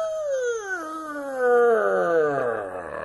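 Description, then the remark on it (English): A castle door creaks open in one long, drawn-out squeal, its whining pitch sliding steadily downward over about three seconds, loud and alone without any voices. “Anytime you see, like, a metal door open, it's gonna make that same creak noise.”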